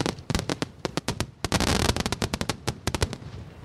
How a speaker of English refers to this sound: Now, picture fireworks, your favorite ones.